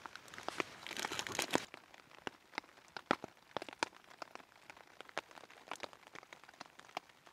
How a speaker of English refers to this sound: So it stopped raining for a bit and it was just the rain from the trees coming, and as soon as I'm about to pack up it started raining again.